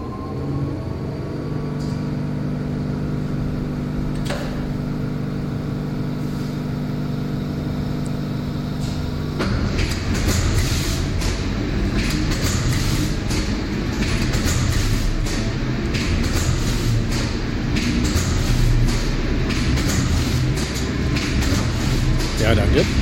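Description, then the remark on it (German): An automatic printing press, printing book or magazine pages pre-embossed on zinc plates in large numbers on especially strong paper, runs with a steady mechanical hum, then bursts into loud, continuous rapid clattering and rattling that keeps going in a busy, even rhythm. “Zinkplatten vorgeprägten Buch- oder Zeitschriftenblätter druckt eine Tiegelpresse oder wie hier ein Automat in großen Stückzahlen auf besonders festes Papier.”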